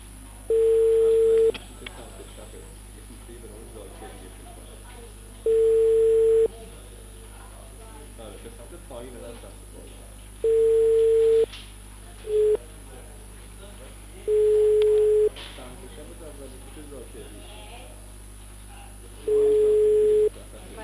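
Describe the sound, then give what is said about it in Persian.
A telephone ringing tone repeats in steady one-second pulses about every five seconds, clear as if heard through the handset, over a faint murmuring background, as a call is placed to the Abbasi Mobiles shop. “سلام، با موبایل های عباسی تماس گرفتم؟”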